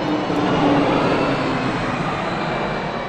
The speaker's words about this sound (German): Ja, das waren jetzt so ungefähr 85 Dezibel. Das ist aber beim Landeanflug jetzt. Beim Start können Sie dann noch einiges draufrechnen.